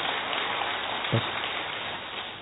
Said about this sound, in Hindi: वापस आ जाए, वापस आ जाए, जोर से ताली बजाएं।